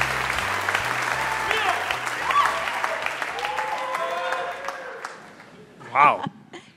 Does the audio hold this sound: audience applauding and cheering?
yes